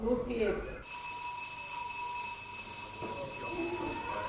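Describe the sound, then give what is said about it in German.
A shrill electric school break bell, rung by a teacher pressing a push-button, starts abruptly after a brief moment of voices and rings continuously at a high, buzzing pitch, loud and steady, with faint chatter underneath. “Ich bleibe neben der Lehrerin stehen, die die Pausenklingel per Knopfdruck drückt.”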